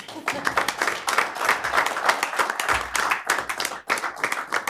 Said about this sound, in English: you can perhaps applaud now.